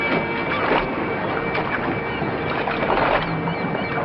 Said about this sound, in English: Crossing another walkway, she steps onto a small boat, and he follows.